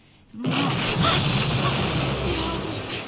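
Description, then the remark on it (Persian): A rocket explosion erupts suddenly after a brief quiet moment, then a loud, broad roaring rumble holds steady for almost three seconds without fading away. No one speaks. “چی بود؟ صدای انفجار راکت بود.”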